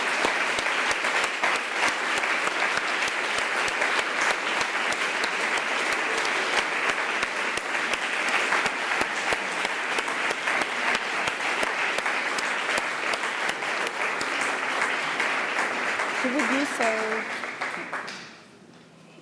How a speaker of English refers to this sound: So let's give him an applause.